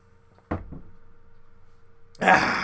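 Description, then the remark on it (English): A couple of sharp clunks, like a cup being set down, then a steady rush of water pouring into a cup that carries on to the end. “And I grab me a little cup of water.”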